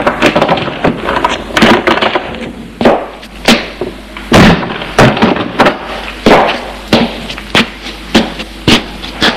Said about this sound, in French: Il est réveillé par la porte qui s'est ouverte.